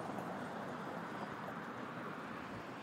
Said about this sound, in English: I'm on the streets. You hear the traffic.